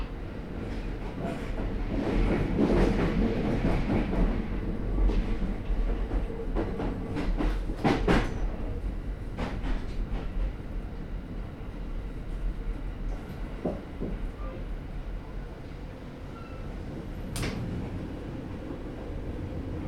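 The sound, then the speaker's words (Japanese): A train rolls steadily along the rails, a continuous heavy rumble punctuated by scattered sharp clacks and brief metallic squeals, fairly loud with no voices. “The doors on the right will open. 東船園へもこの電車が先に到着します。”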